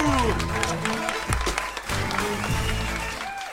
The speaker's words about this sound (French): Merci, c'était Nicolas Plantou. On applaudit Nicolas Plantou.